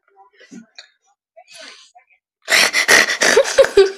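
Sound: repeated sneezing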